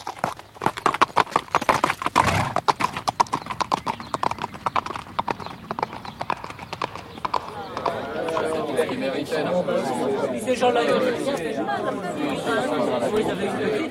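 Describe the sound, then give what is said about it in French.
A rapid, steady clatter of horse hooves on a hard surface fills the first half, then fades under a busy murmur of many voices chattering nearby. “En ce cas, faites seller votre cheval, baron, et en route !”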